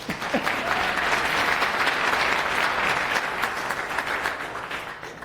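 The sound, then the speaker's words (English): A crowd claps steadily for about five seconds, a dense, even wash of many hands at fairly loud volume that tapers slightly toward the end, with no voices standing out; the audience is applauding a person wearing TinyGo earrings. “I want to give you a round of applause for the person with the TinyGo earrings.”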